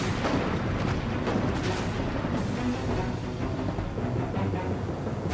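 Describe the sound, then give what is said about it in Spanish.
Heavy cannon fire rumbles through a dense, continuous roar, with a few sharper blasts standing out near the start, as a warship sinks a grounded Peruvian ship near the rocky coast of Punta Gruesa. It stays loud and steady throughout, with no voices. “hábilmente navega junto a la costa sobre enormes y afiladas rocas hasta que hace encallar al barco peruano y luego lo hunde a cañonazos.”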